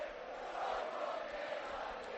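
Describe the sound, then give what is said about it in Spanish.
A large crowd, wild with excitement over a result, roars and cheers in a town square, a steady, dense wall of voices with no pauses, holding loud throughout. “Bueno, la gente totalmente está como loca. Mira cómo suena la plaza.”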